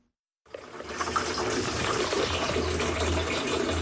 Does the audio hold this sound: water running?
yes